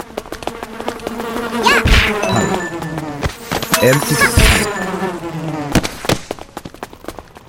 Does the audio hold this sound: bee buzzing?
yes